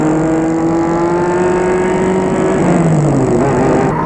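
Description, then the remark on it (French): A car engine roars loudly, its steady droning tone shifting as the car goes faster and faster along the road after leaving Paris, its brakes not responding. It is continuous for the whole stretch, with no voices. “La voiture roule de plus en plus vite.”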